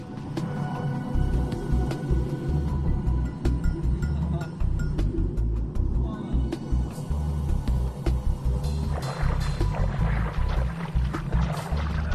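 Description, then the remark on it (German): A submarine rises and surfaces through water, with a steady low mechanical rumble under churning, bubbling water that grows brighter and splashier near the end. No one speaks. “Dann können wir auftauchen.”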